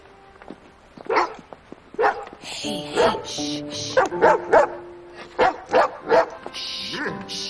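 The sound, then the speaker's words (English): A dog on a snowy sidewalk barks as a person approaches it, over and over in a quick, uneven series of sharp, loud barks, some coming in pairs, with brief pauses between them. “makes it onto the sidewalk and approaches a dog.”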